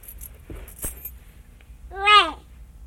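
A few quick metallic clinks of keys jangling as they are handed over, brief and light, followed a moment later by a short voiced sound from someone.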